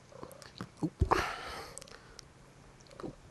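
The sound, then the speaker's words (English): A cat chews and bites at headphones: a few soft, irregular gnawing clicks and a brief burst of rustling scuffle, with faint purring and no talking. “I've just got to I've got to chuck the cat out because he's being a real bastard. Hold on. He's eating the headphones again.”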